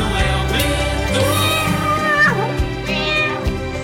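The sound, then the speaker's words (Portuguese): A cat meows a couple of times, loud, its rising and falling cries riding over a bright, busy musical backing with no one talking; the 'Gatinho da Povo' jingle for the Super Manhã show on Rádio Povo de Feira de Santana. “Super Manhã. Com o Gatinho da Povo.”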